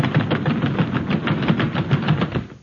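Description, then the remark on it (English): A loud, steady rumble of many pounding feet as the audience of an NBC studio stampedes out, with rapid rhythmic thuds running together for a few seconds and no voices. “Costello, what was that? What do you think it was? The audience!”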